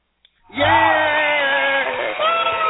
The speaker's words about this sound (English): Yay! Yay! Louder! Don't stop! Keep going! Everybody give her another round of applause!